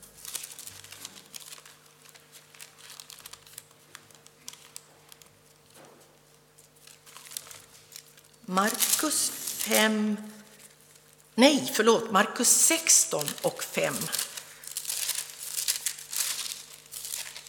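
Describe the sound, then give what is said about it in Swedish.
Pages of a Bible being leafed through, a steady patter of papery rustles and crinkles, with a voice briefly speaking over the flipping. “Bläddrandet i biblar, det har alltid fört fienden på flykten.”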